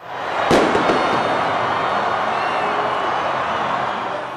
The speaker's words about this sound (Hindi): ये जश्न की वे आवाजें थीं जो बीती रात फुटबॉल विश्व कप का दूसरा सेमीफाइनल खत्म होने के बाद क्रोएशियाई राजधानी जागरेब की सड़कों पर सुनाई दे रही थीं।